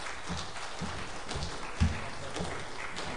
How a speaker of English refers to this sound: Please give him applause.